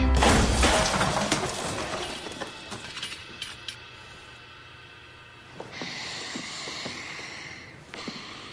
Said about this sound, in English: He's trying to get his student to drum precisely the rhythm, precisely the speed that he wants, and he throws a chair at him in fury.